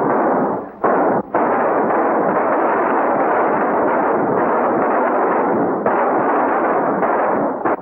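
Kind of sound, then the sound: impact, gunfire exchange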